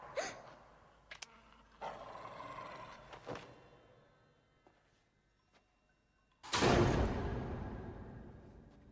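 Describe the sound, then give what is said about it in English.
Sharp, dog-like barks and yips from dog bats hanging from the lighting bars of a dark, empty auditorium come in a scattered series, then after a quiet pause a loud, harsh burst of barking and growling rings out and slowly fades, with no talking. “Hearing a sound, she directs the torch upwards. Dog bats hang from the lighting bars.”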